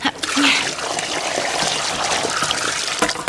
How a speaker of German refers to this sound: Ich gieße mal das Wasser ab.